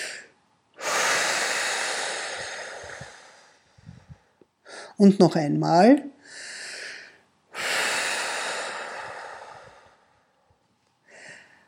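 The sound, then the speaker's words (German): Two long, deep exhales, each a loud breathy whoosh lasting a few seconds, with a short spoken phrase in between; a person sitting in a chair exhales deeply and audibly as a relaxation breathing exercise. “Atmen Sie bitte tief aus, am besten hörbar mit Geräusch.”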